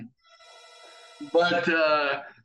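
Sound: telephone ringing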